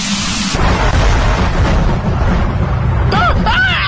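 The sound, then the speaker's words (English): A lightning strike bursts out as a loud, sustained crackling roar over deep rumbling, with a few short, wavering yelp-like cries rising and falling near the end. “I'm standing in the middle of this electrical storm to prove that our show can stand up to anything.”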